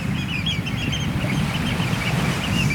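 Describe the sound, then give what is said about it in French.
Two oystercatchers, black-and-white birds with long orange legs, white bellies, black backs and a long straight bill, pipe in a steady stream of sharp, high calls over a rumbling background of wind and surf on a beach backed by dunes, overlapping one another. “Là tu vois il y a deux huîtres épis. Donc tout noir et blanc, c'est des oiseaux.”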